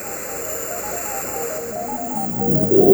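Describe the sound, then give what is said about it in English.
A jet airplane roars as it speeds down the runway for takeoff, its steady engine rumble and high whine building and growing louder toward the end, with no voices. “Our plane is ready to take off. The plane is speeding down the runway.”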